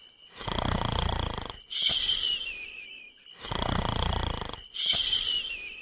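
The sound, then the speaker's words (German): Loud snoring from three sleepers napping under a tree in the heat: two slow breath cycles, each a long rasping inhale followed by a whistling, wheezy exhale, with no talking. “Die Hitze macht die drei schläfrig und bald schnarchelt alle unter einem Baum.”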